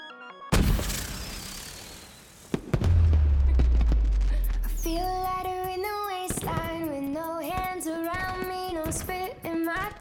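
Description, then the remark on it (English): Fireworks burst loudly, a sharp crackling blast followed by a deep rumbling boom, and then music with bright melodic tones starts playing over the fading noise. “drink champagne from bottles beneath a fireworks display.”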